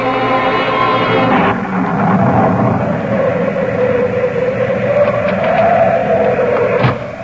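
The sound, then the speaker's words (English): A loud, steady roar of storm noise, like heavy wind and rain, with two sharp cracks of thunder breaking through, one early and one near the end, beneath sustained tonal music. “That's just the storm.”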